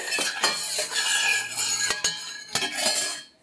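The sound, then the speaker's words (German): A lemon being peeled with a knife into pieces of peel to float in tea as decoration: a steady run of rough, scratchy scraping strokes with a few sharper clicks, fairly loud, with no voices, fading out at the end. “Ich habe ein bisschen Angst, wie du gerade deine Zitrone schälst, dass du dich irgendwie verletzt”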